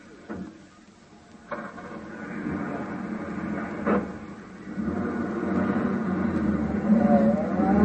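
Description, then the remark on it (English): A few sharp door-like thumps give way to a taxi's low engine rumble that steadily grows louder and fuller as the cab pulls away and drives off to follow a gray sedan. “Hey, taxi. Cab, sir? Yeah, that gray sedan of the chauffeur. Follow it.”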